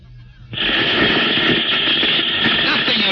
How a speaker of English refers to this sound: Just a lot of electronic interference.